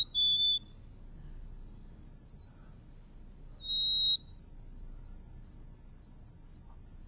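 Birds sing high, thin whistled notes in the treetops of cedar and pine woods on a small island, a few spaced phrases at first, then a quick run of repeated notes near the end, all over a soft low outdoor rumble.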